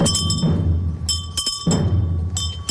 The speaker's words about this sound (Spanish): Al paso de la comitiva fúnebre suenan campanillas de viático.